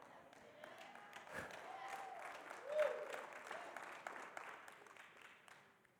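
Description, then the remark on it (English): A church audience claps their hands together in sustained, dense applause, swelling briefly midway before gradually tapering off, with a few indistinct voices mixed in. “Now, my prayer is that we don't just get excited here and clap our hands.”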